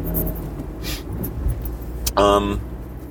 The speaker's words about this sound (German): Auto. Da kam ein Auto, ups, aber auch viel zu schnell. Der ist nicht 50 gefahren, mein Freund.